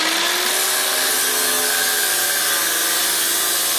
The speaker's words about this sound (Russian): После этого женщина пропала вместе с ключами от сейфа с документами. Чтобы их заполучить, сейфы пришлось резать болгаркой.